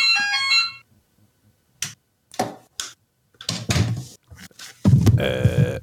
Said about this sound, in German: Aber das ist doch kein Klingeling. Das ist aber ein ganz angenehmer Klingelton. Ja, nicht, wenn er 15 Sekunden lang läuft. Ja. Ach so, weil der dann immer wiederholt.